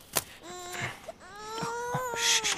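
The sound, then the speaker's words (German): A baby wails in two drawn-out, rising cries, fairly loud, with brief broken sounds between them and no talking; the infant has just been woken outside a house in the cold. “Oh, jetzt hast du es geweckt.”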